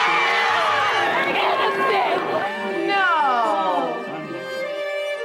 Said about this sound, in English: People weren't cheering O.J. Simpson, per se. They were cheering that one time, it seemed that the criminal justice system balanced in favor of a black person.